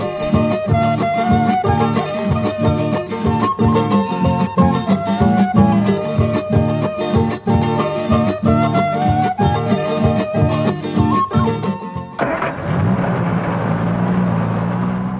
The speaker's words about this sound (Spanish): Los turistas suben a su carro, encienden el motor y se desplazan.